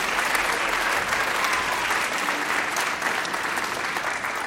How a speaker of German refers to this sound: Jetzt klatscht mal für euch selber. Ja, klatscht für euch selber und für mich natürlich. Für euch, Kinder.